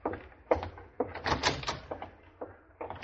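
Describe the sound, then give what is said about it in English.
A door is opened and shut for a general who is leaving, with a series of wooden knocks, creaks and latch clunks spread over a few seconds and no one talking. “Open the door for the general. He's leaving.”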